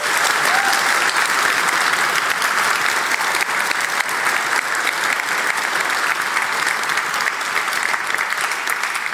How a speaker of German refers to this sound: Also vielen, vielen Dank und bitte einmal kräftigen Applaus.